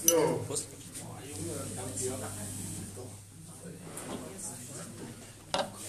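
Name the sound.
cups clinking together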